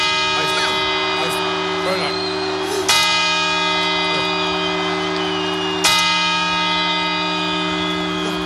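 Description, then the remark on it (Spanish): A large clock-tower bell strikes slowly at midnight on 31 December in Spain, marking the new year, two loud tolls about three seconds apart, each leaving a long, humming resonance that rings on between the strokes. “en España, bueno, está muy arraigada lo de escuchar las 12 campanadas a medianoche el 31 de diciembre y celebrar el cambio de año tomando 12 uvas.”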